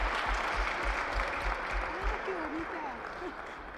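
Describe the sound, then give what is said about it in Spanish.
Sustained applause from a large crowd in packed stands as a plaque for winning the second phase is presented to the centre's director, a dense, steady wash of clapping from many hands throughout, with faint voices murmuring underneath. “con el aplauso, como no puede ser de otra manera, de estas gradas que están abarrotadas.”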